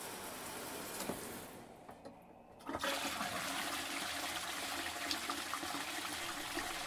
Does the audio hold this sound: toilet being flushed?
yes